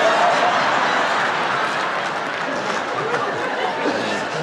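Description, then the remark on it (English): A live audience claps steadily in a dense, continuous wash of applause that holds at an even loudness throughout, with faint crowd murmur and a few chuckles mixed in. “The Gentiles are clapping and the Jews are clapping.”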